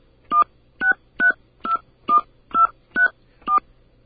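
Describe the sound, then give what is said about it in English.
Eight telephone keypad tones beep in a steady, evenly spaced sequence, each a short bright dual-pitched note, as a home telephone number starting with the area code is entered into a Cablevision automated customer service line. No one speaks. “Okay, I'm going to enter my phone number.”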